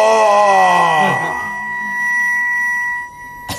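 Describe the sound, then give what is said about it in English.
A 1 kilogram aluminium plate, resting on top of a wire carrying a huge alternating electric current, vibrates at twice the current's frequency. It lets out a loud, harsh wail of layered tones that wavers and slides, then settles into a steady, high ringing hum that fades after a few seconds. “It's the vibration of the plate, because it's vibrating at 2 times the frequency of this one.”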